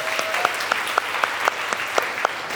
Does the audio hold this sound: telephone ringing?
no